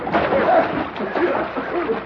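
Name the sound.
splashing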